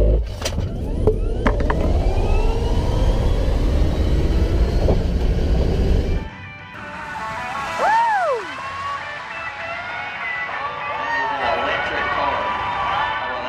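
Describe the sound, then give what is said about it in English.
A Tesla electric car takes off hard, heard from inside, its motor whine climbing over loud road rumble for about six seconds before cutting to open-air crowd ambience in the stands of Darlington Speedway, with a PA announcer telling the crowd it is an electric car. “Now, here's a takeoff from inside the Tesla and then a quick cut to the stands of Darlington Speedway where they do their testing.”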